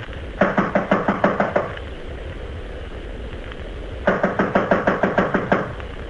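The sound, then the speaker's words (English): Two bursts of rapid, firm knocking on a second-floor apartment door, each about ten quick raps, separated by a pause of a couple of seconds, over a steady background hiss. “This is it. I'll knock.”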